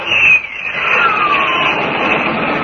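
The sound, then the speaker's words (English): A loud, steady jet engine roar with a whining pitch that sweeps downward as a tiny jet dives into a jam-up of ships, trying to avoid a three-ship collision, filling the whole short stretch with rushing noise and no voices. “Tom dives his jet into the jam-up, desperately trying to avoid a three-ship collision”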